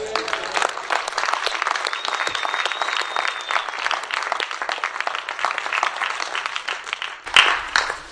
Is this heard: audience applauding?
yes